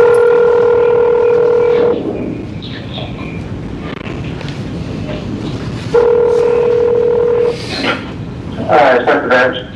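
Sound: telephone being dialed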